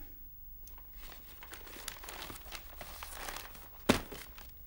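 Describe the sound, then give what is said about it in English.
Continuous rustling and crinkling of a newspaper for several seconds, ending in a sharper crisp rustle as the paper is set down. No one speaks. “would you mind putting the paper down?”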